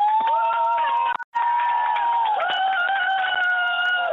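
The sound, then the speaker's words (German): A group of children from Hürth cheering and shouting loudly together on command, a sustained high-pitched roar of voices with a brief drop in the middle before the cheering swells again. “Die dürfen jetzt mal ruhig laut jubeln, wenn sie wollen.”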